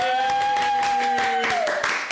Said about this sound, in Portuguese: Uma salva de palmas.